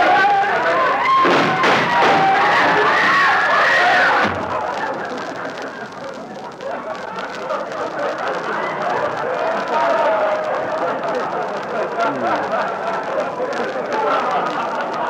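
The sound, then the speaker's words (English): A loud crowd of many overlapping voices fills a crowded department store bargain basement in the Christmas season, with a sharp burst of louder chatter at the start before settling into a steady, dense murmur. “It is pretty crowded at that.”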